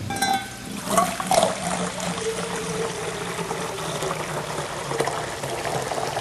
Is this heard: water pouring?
yes